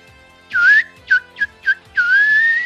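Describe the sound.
A person whistles a birdlike tune imitating a canary's song: a long rising warble, three quick chirps, then another sustained trill, clear with no talking.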